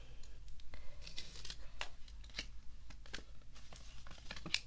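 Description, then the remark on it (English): Quiet handling noises as paper and a pen are picked up: paper rustling and crinkling with a scattering of small taps and clicks as the sheet is shuffled, with no voices. “Let me get my paper and pen.”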